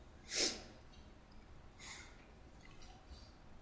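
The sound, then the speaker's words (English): A single quick, sharp sneeze bursts out once, fairly soft, followed by a fainter breathy exhale and quiet room tone, with no talking. “I'm about to sneeze.”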